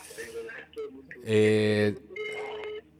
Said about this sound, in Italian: C'è un telefono che si sente sottofondo.